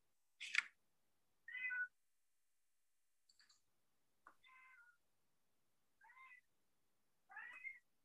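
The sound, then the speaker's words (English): A cat meows repeatedly, about five short, clear calls spaced a second or so apart, moderately loud, with a faint click or two in between and no talking. “My cat's going to yell about it.”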